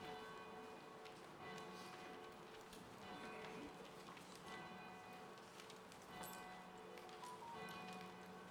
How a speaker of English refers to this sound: There's the bells. We'll let them ring.